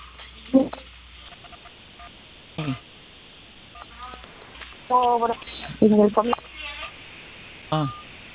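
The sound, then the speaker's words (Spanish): Several telephone keypad tones beep in short, irregular bursts over a faint phone-line hiss as a caller presses the keys of their phone during a service call, each press a brief steady two-note chirp, with a few clustered close together. “Las teclas de su teléfono se están presionando.”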